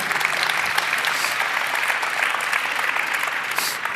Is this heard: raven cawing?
no